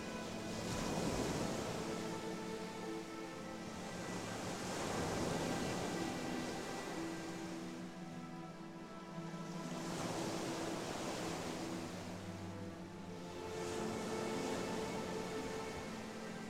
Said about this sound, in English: You have nothing else to do but sit on this beach and be in tune with nature. Enjoy the waves coming in and then letting go and releasing again.